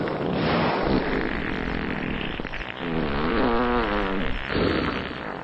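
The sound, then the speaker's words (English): A long, loud, wet, blubbery flatulent rumble from a humpback whale, sustained for about five seconds, with a wavering tonal warble in the middle and no voices. “I hate to say this, but I think they're farting at us.”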